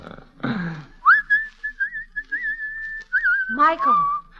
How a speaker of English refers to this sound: Don't seem to me you're looking very hard, hanging right on the front gate and whistling on the Sabbath.